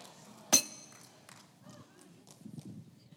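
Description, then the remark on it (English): A single sharp glass clink rings out near the start, bright and brief with a short ringing tail, followed by quiet rustling and faint low murmurs. “If I really have my real glass out here, it's about twice the size.”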